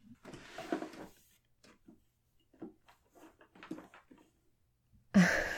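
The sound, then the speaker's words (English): A drawer holding underwear is handled with scattered soft clatters and rustles as things inside are shuffled, then a sudden loud scraping slide near the end. “Some underwear, mostly. But I can get most of that. I think it's mostly in this drawer, anyway.”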